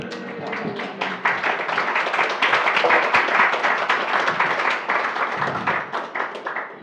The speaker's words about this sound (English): I have to admit, I like when you clap. Reciprocation of love. It humbles me, thank you.